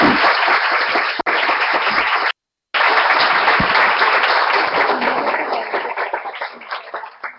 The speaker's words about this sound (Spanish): Esos son logros institucionales, y el aplauso para ella, de luego, claro que sí.